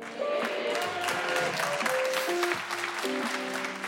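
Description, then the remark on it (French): An audience of women applauds steadily, a dense continuous patter of clapping that holds at a fairly even level for several seconds, with a few faint voices and cheers mixed in. “Il y a vraiment que les meufs qui applaudissent.”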